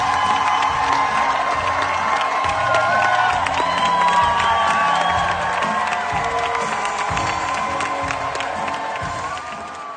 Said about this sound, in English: Yeah, so in case anyone's wondering, that's what 7 standing ovations sounds like. That's so many standing ovations.